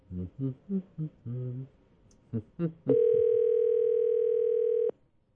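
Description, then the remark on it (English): Brief muffled voice sounds, then a loud, steady electronic phone line tone holds for about two seconds before cutting off abruptly while a man's phone is being called. “Let's see if he answers his phone.”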